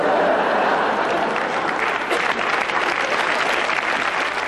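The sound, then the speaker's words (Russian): Sustained audience applause in agreement, a dense, steady wash of many hands clapping at a constant loud level, with no pauses or voices standing out. “Вот ваши аплодисменты, говорят, видели и согласны.”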